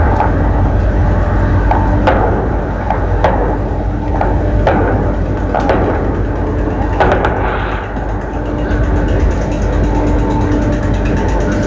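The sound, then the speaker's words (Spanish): Several sharp gunshots crack out at irregular intervals in the dirt yards adjoining the Cementerio General in Santiago, about half a dozen in all, over a constant loud background rumble and hiss. No one speaks. “Usted escucha disparos, en este caso, es digamos lo que nos están señalando, esto es el Cementerio General, es los patios de tierra, particulares los patios de tierra que están contiguos al Cementerio General.”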